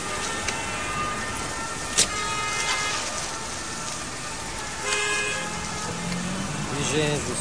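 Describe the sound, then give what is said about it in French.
Car horns honk in busy Paris traffic on a Sunday evening: a few short toots rise over a steady wash of engine and road noise, with a sharp bang early on and more honking near the end. “Trafic à Paris, j'arrive bientôt.”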